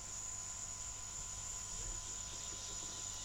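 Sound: crickets chirping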